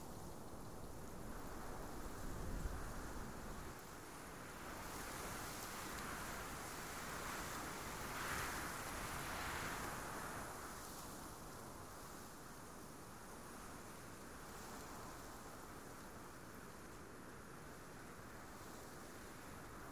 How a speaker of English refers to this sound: Imagine that you are standing at the magic line where the sea meets the land, the soft, cool sand under your feet that are being washed by the last of each wave that crashes on the beach and just barely reaches your feet